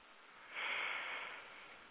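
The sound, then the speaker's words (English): A single slow, deep breath drawn in through the nose, a soft airy hiss that swells after a brief pause and then fades gradually, quiet with no talking. “of that ray of love, of that ray of your heart chakra, in through your nose.”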